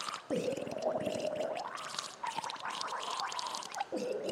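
A man gargles a tune, the bubbling, rattling throat sound holding sustained pitches that rise and shift from note to note over about four seconds, fairly loud and continuous.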